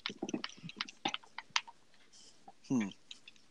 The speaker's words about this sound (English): Who's typing? Yeah. Who is typing? Not me. Not me.